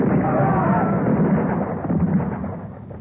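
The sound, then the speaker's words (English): A loud musket volley from a firing squad, heard as a dense, crackling roar of gunfire that rolls on for about three seconds, swelling briefly before easing slightly at the end. “All right, soldiers, make ready. Present. For God of vengeance, give him blood to drink. Fire!”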